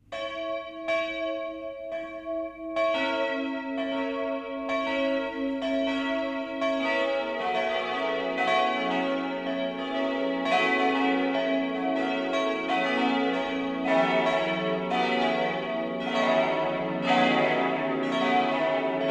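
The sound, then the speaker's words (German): Eight bells of the Catholic parish church St. Heinrich in Bamberg, Upper Franconia, Germany, ring out the 12 o'clock midday peal, several bells striking in overlapping, steady succession, building into a full, dense, resonant chime with long ringing overtones and no voices. “Das Mittagsläuten kommt heute von der katholischen Pfarrkirche St. Heinrich im oberfränkischen Bamberg.”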